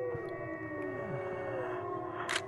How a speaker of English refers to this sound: And now all the wolves are howling in response. Who knows what those howls meant? but it's tempting to think it's the wolves' way of calling for an encore.